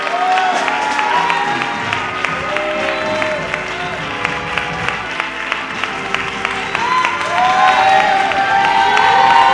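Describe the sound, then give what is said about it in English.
A large church audience claps steadily and loudly for several seconds in praise to God as a children's choir member comes forward to give a testimony, the dense applause mixed with scattered voices calling out and cheering throughout. “Y'all give God a hand clap of praise as she comes forth.”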